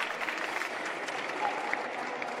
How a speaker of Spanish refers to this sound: Bueno, un fuerte aplauso para